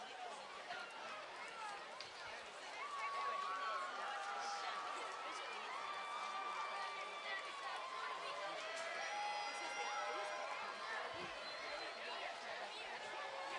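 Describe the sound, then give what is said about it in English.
A baseball stadium crowd cheers after a half inning for Bowie, in a steady, dense roar that swells after a few seconds, with scattered shouts, whoops and overlapping chatter throughout. “Crowd has certainly gotten jolted to life after that last half inning for Bowie.”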